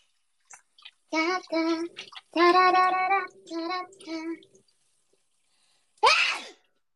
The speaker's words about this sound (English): Thank you, God, for letting me sneeze because sneeze is very healthy.